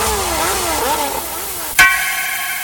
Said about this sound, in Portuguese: Mais de 40 moto acelerando a radial. Mais de 40 moto acelerando a marginal.